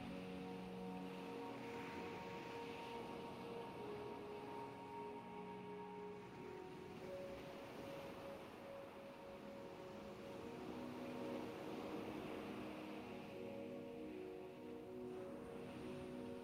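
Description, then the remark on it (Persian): Steady sea waves wash continuously beneath soft, sustained ambient music tones, a constant rushing surf with gentle swells and no voices. “همینطور که غرق در صدای دریا هستی، شروع کن و نفس عمیق بکش.”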